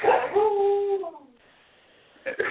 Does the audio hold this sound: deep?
no